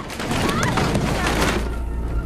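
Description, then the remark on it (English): A loud, sustained burst of thunderous crashing and rumbling as a lightning strike hits a plane in a storm, mixed with heavy thuds of luggage tumbling down from the overhead lockers, with indistinct voices faintly underneath. “A lightning strike causes luggage to fall from the overhead lockers.”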